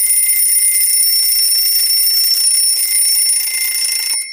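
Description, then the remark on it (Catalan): An alarm clock, set the night before for the next day, rings loudly and continuously, a shrill electronic tone held steady for about four seconds before cutting off abruptly, with no voices. “Va sonar el despertador.”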